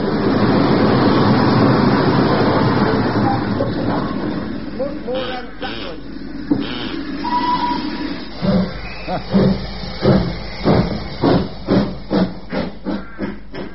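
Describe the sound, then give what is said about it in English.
The Flying Scotsman steam locomotive lets off a long, loud roar of hissing steam, then settles into a steady series of rhythmic chuffs as it arrives and stops. “Why would the Flying Scotsman stop at a duck?”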